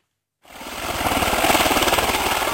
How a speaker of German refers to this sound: In einem russischen Transporthubschrauber fliegen wir in 300 Meter Höhe über den dampfenden Regenwald. Ein UN-Versorgungsflug. Er bringt Soldaten, Zigaretten, Schulbücher und Medikamente nach Sedru im Südosten Liberias.